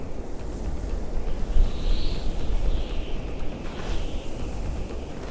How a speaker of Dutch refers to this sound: En daar is hij zo druk mee bezig dat hij de naderende zandstorm niet opmerkt.